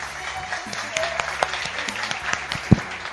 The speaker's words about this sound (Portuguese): Mais uma vez, uma salva de palmas para vocês.